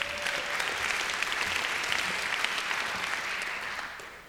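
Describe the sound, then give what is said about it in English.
A large crowd applauds itself steadily, a dense patter of many hands clapping that holds at an even level for several seconds before starting to taper off at the end. “Especially tickled to death to have such a large crowd. We think that's wonderful. Give yourself a hand.”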